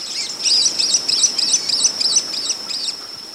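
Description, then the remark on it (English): A rapid series of high, buzzy chirps from cave-nesting swifts repeats in quick bursts, roughly eight or nine pulses over a few seconds, over a steady hiss of background noise. “By day, they fly very high above ground, in search of flying insects, gliding and soaring on outstretched wings, rarely flapping.”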